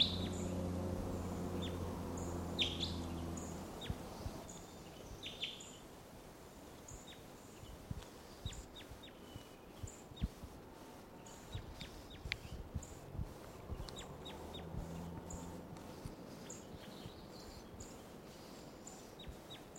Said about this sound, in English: There's a wild crossbill here, a different one, or maybe the same one, much later. It's about 10 o'clock now.